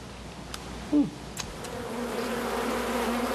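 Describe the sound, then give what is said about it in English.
Honey bees buzz steadily in a low, continuous drone, with a brief louder hum passing by and a few faint clicks, no voices present. “When you have as many bees as I do, you have to extract daily for at least a week to get all the honey out of the combs”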